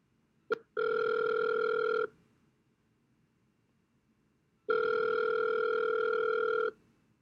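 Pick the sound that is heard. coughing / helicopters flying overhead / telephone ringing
telephone ringing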